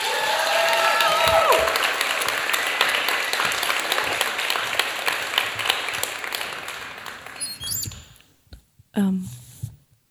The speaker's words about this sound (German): Klatscht sie auf die Bühne mit einem 10-Punkte-Applaus.